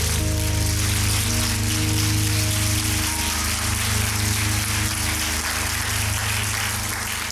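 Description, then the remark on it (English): An audience at a worship service claps steadily in praise of the Lord, a dense, even patter of many hands lasting several seconds, with sustained low musical tones held underneath and no talking. “Let's salute the Lord with a clap of praise.”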